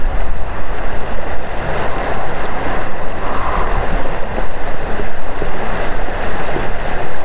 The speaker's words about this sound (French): Alors que l'hiver a bien gelé les lacs de la Basse-Côte-Nord, le son du ruisseau qui s'écoule dans la baie au saumon retient notre attention lorsque nous stationnons notre camion sur le site de la Salmon Bay Farm à Rivière-Saint-Paul.